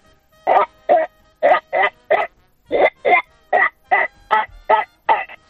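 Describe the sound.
A person imitates a duck with a steady run of about thirteen nasal quacks, evenly spaced in short bursts, fairly loud, with no other talking.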